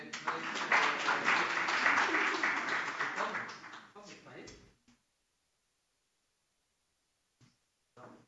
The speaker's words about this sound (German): Schon mal Applaus.